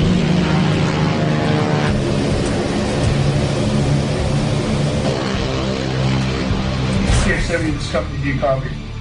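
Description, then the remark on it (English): A propeller plane engine drones loudly and steadily in flight, a dense continuous hum, with muffled voices talking over it. “Up here, it's not uncommon for a plane to be out of radio range from HQ.”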